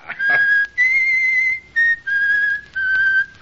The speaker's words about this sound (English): Stop that infernal whistling, or I'll silence your tongue with my